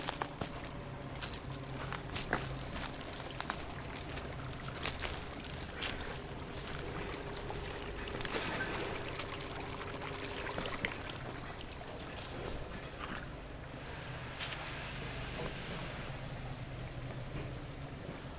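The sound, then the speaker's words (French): A steady rush of water pours and splashes into a river, continuous and fairly loud, with scattered footsteps and small clicks over the top and no talking. “On verra si c'est une pompe qui pompe quelque chose dans la rivière ou ce qui alerte là de l'eau.”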